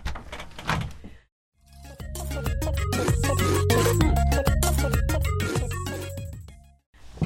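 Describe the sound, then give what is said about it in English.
Heavy knocking on a door as a guest arrives, a quick burst of thuds followed by a longer, dense run of loud, booming blows, with no one talking. “Knock at the door.”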